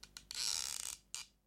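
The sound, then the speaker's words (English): A wooden rocking chair creaks as a man rocks in it: two quick ticks, then a long, scratchy groan, followed by one more short creak. It is fairly quiet, with no voices. “He seemed frightened and talked to himself, rocking in his chair.”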